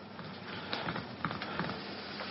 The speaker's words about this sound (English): Oh, it's rain.